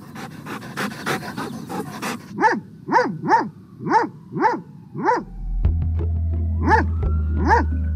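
A dog barks about eight times in a steady series of loud, mid-pitched woofs, following a couple of seconds of breathy rustling. A low steady hum sets in under the later barks.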